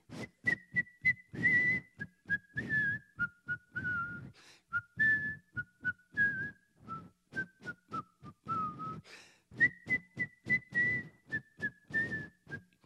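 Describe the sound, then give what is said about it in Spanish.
A single person whistles the national anthem, a slow, steady melody of sustained notes, clear, with faint rhythmic thumping beneath it and no talking, at a 5 a.m. navy formation. “y lo pusieron a la formación a las 5 de la mañana a silbar el himno nacional.”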